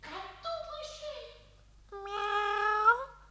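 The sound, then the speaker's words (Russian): A cat meows twice: first a wavering, falling cry, then after a short pause a longer, louder, drawn-out meow that rises slightly before breaking off. “Все будет хорошо, котик.”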